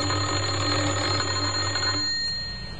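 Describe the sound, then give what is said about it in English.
A doorbell at a house in Oxford, pressed by a man on a Monday morning, rings in one continuous metallic buzz for about two seconds, then cuts off and fades, leaving a faint hum behind. No one speaks. “He had a worried expression on his face as he walked up the few steps and pressed the doorbell. Again he tried.”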